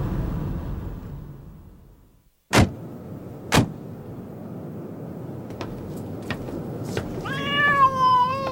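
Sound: cats meowing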